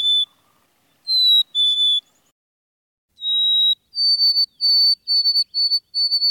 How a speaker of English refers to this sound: Most people know the black-capped chickadee's chickadee-dee-dee call, but not so many recognize its actual song, which I transcribe as Hey Sweetie. In May, chickadees are doing a lot of singing, especially at dawn.